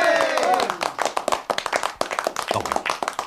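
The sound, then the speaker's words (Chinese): A group stands and bursts into brisk, steady applause to approve electing Sun Yat-sen leader of the Tongmenghui (Chinese United League) at its founding, many hands clapping together in a dense patter, with voices calling out over it at the start. “赞成嘅人请起立鼓掌。”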